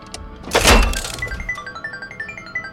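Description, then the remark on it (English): A slot machine being played: a loud mechanical clunk as it starts, then a steady run of quick, bright electronic ticks and chiming tones as the reels spin. No one speaks. “The slot machine. You want to see? Check this out.”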